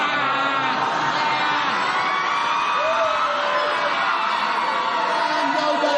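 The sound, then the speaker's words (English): A group of people scream loudly together in a sustained, dense wall of voices that keeps going without a break from start to finish. “Yeah, now get louder and louder. And start really screaming, really let it go.”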